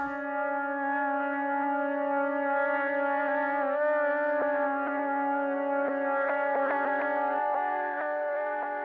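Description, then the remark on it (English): A sustained Mellotron keyboard tone, given an analog modulated sound like an old tape played too many times, its stacked harmonics wavering slightly in pitch, with occasional clicks and a brief dip midway; steady and moderately loud, no talking. “Like very like an old tape, like that's been played too many times, and I'm proud of it. Because that's kind of how the Mellotron keyboard sounds.”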